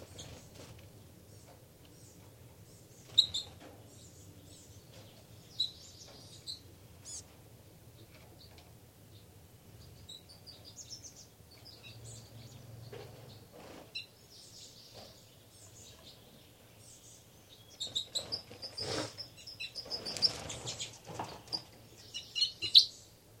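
bird, birds fighting and calling

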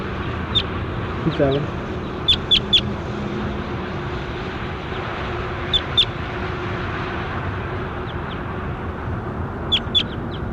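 bird, bird call

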